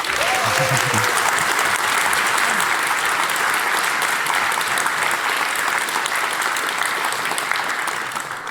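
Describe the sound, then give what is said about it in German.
A crowd at the GPN hacker event claps steadily to welcome a talk on hacking the ETCS train system, a dense, loud wash of applause that holds for several seconds before beginning to ease off at the end, with a faint voice briefly audible near the start. “Einen tollen Applaus bitte.”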